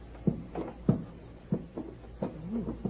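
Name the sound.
door being opened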